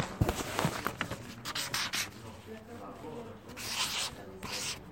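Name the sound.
writing on paper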